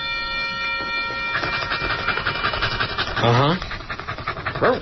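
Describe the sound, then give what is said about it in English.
A dog vocalizes with a couple of short, pitch-sliding yowls near the end, heard over a steady background hum and low rumble. “He says he's not a socialist. He's a responsible anarchist.”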